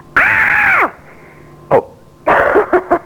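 A person screams as loudly as they can into a test device that measures each person's loudness: a loud, strained scream held for under a second, then a few shorter, rougher vocal bursts after a brief pause.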